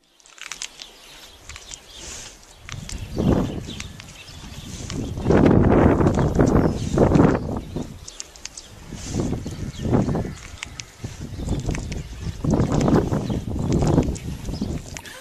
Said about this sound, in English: In fact, the word meditate has been used to describe a cow chewing its cud. And I actually have a video of that I want you to watch right now.